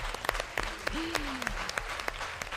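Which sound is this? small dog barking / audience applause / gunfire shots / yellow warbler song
audience applause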